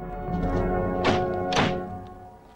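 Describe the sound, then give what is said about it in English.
The two rear doors of a hearse slam shut in quick succession after a coffin is slid inside, each a loud, solid thunk about half a second apart, over a steady low background hum with no voices. “The doors slam shut.”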